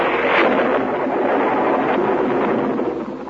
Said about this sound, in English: On a lonely, windswept English moor, in the cold, dismal castle known as Drummond's Folly, the electric power has failed. A storm is rising as Lady Fonstock speaks to her butler, Anatole.